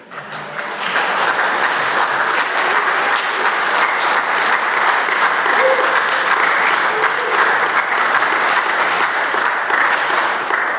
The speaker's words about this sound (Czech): Já myslím, že si zaslouží potlesk.